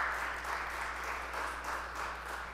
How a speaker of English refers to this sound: Can we give God a praise clap for that today?